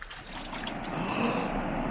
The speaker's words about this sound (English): The water! It is parting, and we can cross on dry land.